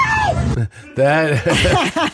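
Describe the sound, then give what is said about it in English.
A person screams in fear, loud, in a few strained bursts that rise and fall in pitch, with a brief gap between the first cry and the longer wail. “That is a real scream of fear.”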